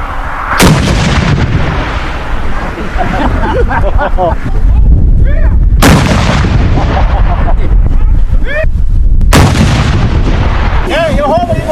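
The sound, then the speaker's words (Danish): Three loud cannon salute shots boom out at roughly even intervals, each a sharp blast with a rumbling tail, while a crowd murmurs and some voices carry in the background. “Nu det, der sker, det er, at de gør kanonerne klar til det næste skud, hvis det var sådan, at vi skulle gøre det.”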